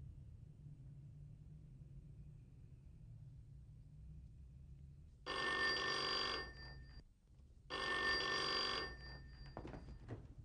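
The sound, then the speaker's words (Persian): A telephone rings twice in clear, evenly spaced bursts of bright, buzzing bell tone, each lasting about a second and a half, over a low steady rumble with no one speaking. “شش تا بچه اونجاست، یکیشون نیست گوشی رو برداره.”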